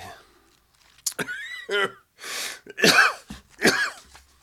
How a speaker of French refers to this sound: Et voilà, dès que je cherche, je tousse. C'est la poussière.